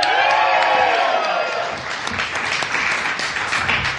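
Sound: audience cheering and applause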